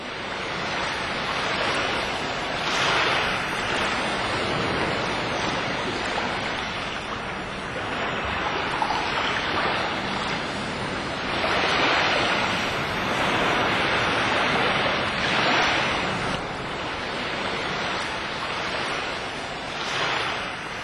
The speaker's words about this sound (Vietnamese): Tôi ngồi trên mép một tảng đá, chân đu đưa khuấy động mặt nước, mắt liếc nhìn những đợt sóng lăn tăn bò vào bờ như những chú rùa biển thời cổ đại.